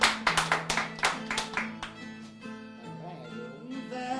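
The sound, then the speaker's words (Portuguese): An audience claps for the singers of a sung desafio in a quick, steady burst that tapers off after about two seconds, over a sustained droning melody of music that carries on once the applause fades. “Deram palmas, na verdade,”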